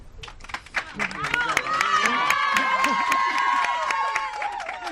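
A Liga Femenina Endesa women's basketball crowd breaks into an ovation for a player, rapid scattered clapping swelling after a moment into loud sustained applause, with high shouts and cheers rising above the clapping throughout.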